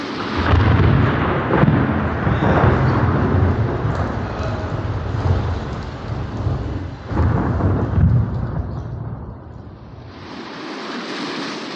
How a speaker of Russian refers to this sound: Шел он однажды через незнакомое поле, и вдруг разразилась гроза.